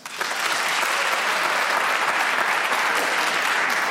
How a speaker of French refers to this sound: Par applaudissement, qui est né en mars?